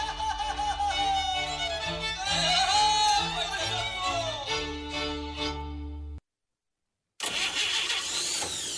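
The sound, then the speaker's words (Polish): An old car engine cranks and sputters loudly, its starter whining unevenly for several seconds, then cuts to a second of silence before grinding back in with a rough, noisy burst. “Zostaw tego grata w spokoju.”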